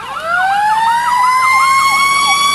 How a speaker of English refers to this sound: Big accident. Must be an accident. Fire truck's going by. I hope nobody got too hurt.